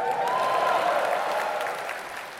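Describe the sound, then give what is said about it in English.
A large audience claps and cheers in a loud, dense wash of applause with whoops layered on top, holding steady before easing off slightly toward the end. The venue is the Royal Albert Hall concert hall. “Big a cheer for that.”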